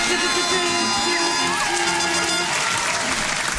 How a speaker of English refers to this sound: can we have the clap? I think that deserves a clap.